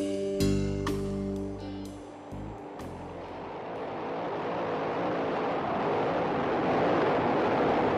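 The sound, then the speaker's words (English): Powerful racing hydroplane boat engines roar loudly on the Detroit River in Detroit, starting with a droning, throbbing whine that gives way to a sustained rushing roar mixed with spray and wind, with no voices. “Well, this past weekend, the Detroit River roared with that sound. The fastest boats in the world were on the river.”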